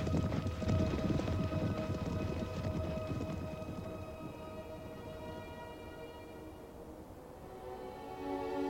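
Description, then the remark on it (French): A dense, thundering rumble of many pounding hooves fills the first half, then thins out as sustained, swelling musical tones take over and grow toward the end. “Simba regarda par-dessus la crête au moment où son père disparaissait dans le tonnerre du martèlement des sabots.”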